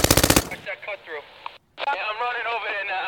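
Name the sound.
police gunfire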